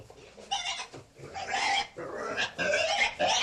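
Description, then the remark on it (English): A pig squeals loudly and shrilly in a continuous run of high-pitched cries, with barely a pause over the few seconds, while being inoculated by needle with hog cholera vaccine in the pigsty of Anyang Laboratory. “and we have quite a few pigs, baby pigs, mama pigs, papa pigs, all ready to be inoculated with the hog cholera vaccine.”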